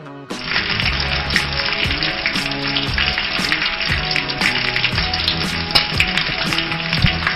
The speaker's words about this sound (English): Oh, the crackling hot stove. Oh, that's what we're talking about. I saw a story that... who's blowing up cellophane paper? That sounds like the grill. That does. No, that doesn't. I don't know what that is. Sure it does.